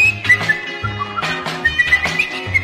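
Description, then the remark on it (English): A bright, cheerful whistled tune hops through a short melody of quick stepping notes, carried over a bouncy instrumental backing with steady bass. “So he come flipping and skipping through the woods, happily whistling a little song.”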